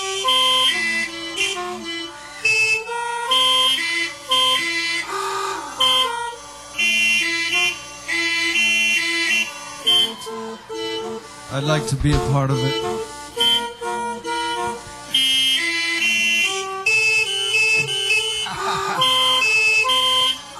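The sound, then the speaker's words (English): Car horns in city traffic honk in long, sustained tones that overlap and shift in pitch like a loose tune, fairly loud and steady throughout, with a voice singing along over them. “Honk!”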